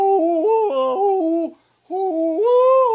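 A loud, wordless hollering call from a CD of recordings by old hollering experts: one voice leaps between high and low pitches in yodel-like steps, breaks off for a short pause, then starts another rising phrase.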